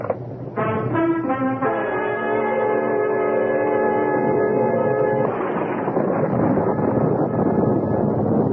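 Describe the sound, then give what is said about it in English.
A steady, loud roar of storm wind and heavy rain flooding the streets runs throughout, overlaid for several seconds by a sustained, horn-like chord before the storm noise carries on alone. “I got in and told him to sit back, listening to the storm and looking out at the flood of rain on the streets.”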